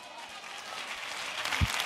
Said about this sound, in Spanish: Si ese es el aplauso, dáselo mejor a tu padre. Aleluya. Aleluya.